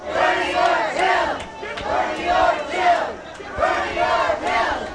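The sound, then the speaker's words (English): A crowd of protesters inside a convention center, where Washington State delegates were voting, chants 'Bernie or Jill' in unison, loud voiced phrases repeating in a steady rhythm about once every second, with no pauses between the repeated shouts; Hillary supporters yell 'go home, Jill'. “I'm not sure if you can hear what they're saying there, but they're chanting, Bernie or Jill, Bernie or Jill.”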